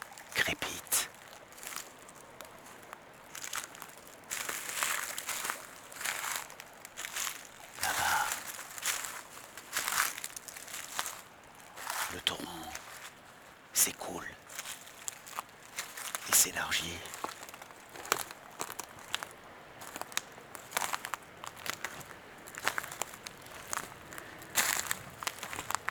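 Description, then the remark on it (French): Steady footsteps crunch and crackle through dry, brittle dead leaves, fairly loud, continuing at an uneven walking pace for the whole stretch with no one speaking. “Les feuilles mortes”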